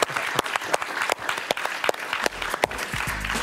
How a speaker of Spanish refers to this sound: Un aplauso para Rodolfo Hernández.